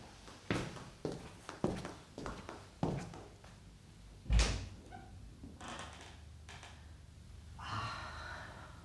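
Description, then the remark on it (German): A door to the terrace is opened with a solid clunk, preceded by a run of soft footsteps and small knocks, then a quiet rustling and hiss of outdoor air afterward. “Sie öffnet die Tür zur Terrasse.”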